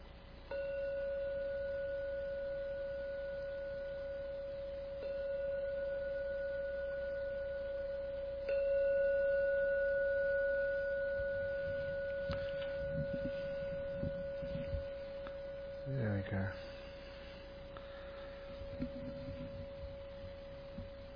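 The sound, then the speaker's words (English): A meditation gong is struck three times in slow succession to mark the end of a meditation session, each strike blending into one steady, pure ringing tone that hums on and slowly fades, with a few faint shuffling noises near the end. “And you hear the gong sounding for the 3rd time.”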